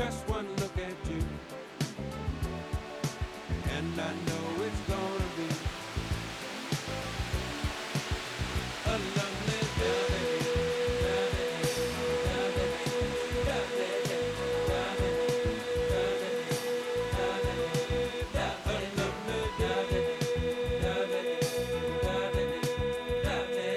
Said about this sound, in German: Der Wind raschelt durch die Blätter.